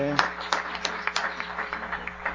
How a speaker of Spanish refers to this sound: Y aplauso a nuestro Señor.